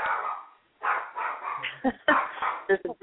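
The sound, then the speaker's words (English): A dog barks repeatedly in short, uneven bursts, mixing fuller barks with a few sharp yips toward the end, heard through a slightly muffled, narrow-sounding line. “There's some dog barking somewhere.”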